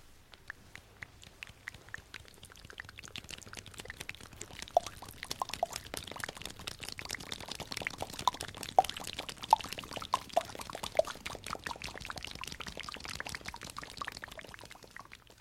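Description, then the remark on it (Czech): Rain sounds made with the mouth and hands: a dense, steady patter of quick taps and clicks that swells slightly in the middle and continues evenly for the whole stretch, with no talking. “Déšť, déšť, déšť, udělám na pusu a na ruce.”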